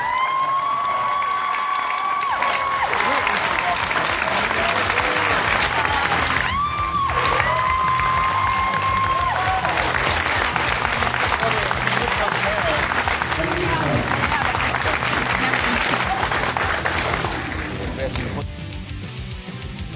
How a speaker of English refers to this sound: And please, please give a big round of applause to a world champion.